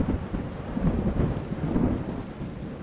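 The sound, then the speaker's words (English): A late wet-season storm in Wadjigan country: low, rolling thunder rumbles beneath a steady hiss of heavy rain, sustained and fairly loud throughout, with no voices. “Towards the end of the wet season, we get knock-em-down storms.”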